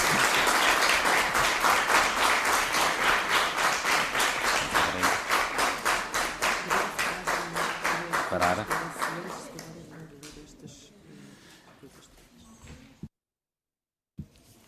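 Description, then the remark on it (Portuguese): A crowd bursts into loud applause for the Viseu electoral district, whose project was approved in the committee vote. The applause settles into steady, rhythmic clapping in unison, then fades away after about ten seconds, ending in near silence with a couple of stray claps. “E eu vou abrir uma exceção, podem bater palmas ao Círculo Eleitoral.”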